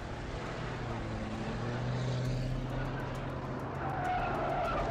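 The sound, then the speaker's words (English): Loud, continuous roar of fifteen vehicles, cars, SUVs and motorcycles, speeding along a highway in the darkness, engines droning steadily with a brief whine of tires rising above the rumble. “Fifteen vehicles, cars, SUVs and motorcycles emerged from the darkness as they tore down the highway and parked themselves in a neat row facing the compound.”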